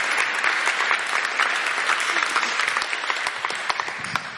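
Steady audience applause fills the whole stretch, a dense wash of many hands clapping at an even, sustained loudness without any voices standing out.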